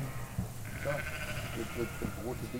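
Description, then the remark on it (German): Several sheep bleat, one long wavering cry overlapping shorter calls from the flock, with a busy murmur of farmyard noise and indistinct voices underneath; East Prussian Gudden sheep, a small breed of about 50 kg, at a farm in Altlandsberg, east of Berlin, on a shearing day. “Hier stehen die Schafe”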